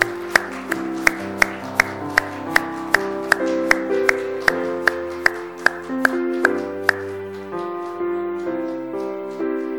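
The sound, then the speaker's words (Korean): A church audience claps in a steady unison rhythm, about three sharp claps per second, over sustained organ-like music, as elders come forward to present gifts to retirees. The clapping fades out after roughly seven seconds while the music continues. “박수하겠습니다.”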